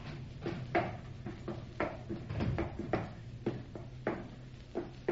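A heavy wooden ship's hatch being worked open, with a series of irregular creaks and clunks over a low rumble. No one speaks.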